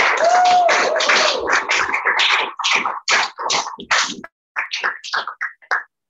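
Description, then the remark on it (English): A short round of applause from an audience at a poetry reading in a store, dense and steady at first, then thinning to a few scattered claps before stopping about six seconds in. “So quick round of applause for these people.”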